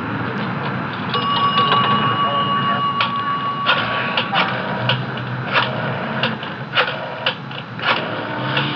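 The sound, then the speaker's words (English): A telephone rings on the line as a call is placed to a home number: one steady electronic tone holds for a couple of seconds, set against a busy, noisy background with voices murmuring throughout. “Well, maybe she's in the bath. Susie picks up the phone when she is. I'll try just once more.”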